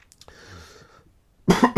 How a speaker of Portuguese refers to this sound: Como é que fica a tosse a 2 vezes de velocidade? Fica engraçado, não é? Isto é ASMR de Covid.